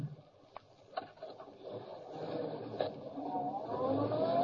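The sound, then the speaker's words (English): A few sharp clicks, then a car engine turns over as a man gets into the car at the curb, and it climbs steadily in pitch and loudness as it revs and pulls away, growing louder toward the end. “He's getting into car at curb.”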